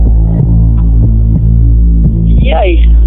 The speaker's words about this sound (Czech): A co takhle, když usínáš a najednou slyšíš komára?